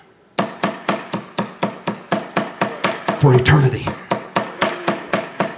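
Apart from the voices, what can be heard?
knocking on a door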